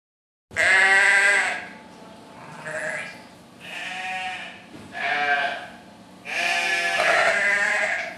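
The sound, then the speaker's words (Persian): A sheep bleats loudly, then gives several shorter, wavering bleats before a final long, strong one. No voices, just the animal calling. “یادتونه فهمیدیم گاو و گوسفند و بز چقدر ما آدم ها رو دوست دارن و برامون شیر درست میکنن؟”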